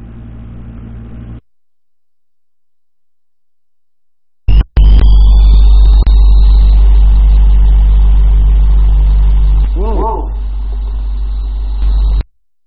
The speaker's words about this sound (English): I hear an airplane.